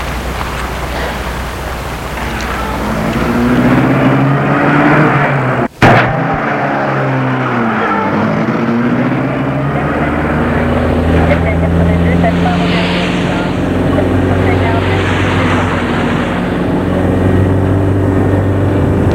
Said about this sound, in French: Le chauffeur leur a demandé ça, comme ça il pourra leur faire un parcours plus long et il met sa voiture en route.